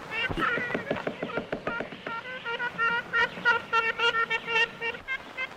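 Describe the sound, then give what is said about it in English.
An old recording of ivory-billed woodpecker calls: a long series of nasal, tin-horn-like toots, repeated rapidly in uneven bursts over a steady background hiss. “Tyler may have a recording of an ivory bill from a long time ago”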